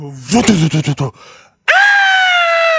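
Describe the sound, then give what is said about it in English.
A voice mimics a person screaming: a burst of choppy, guttural vocal pulses, a short pause, then a loud, steady high-pitched shriek held for over a second. “Just a scream.”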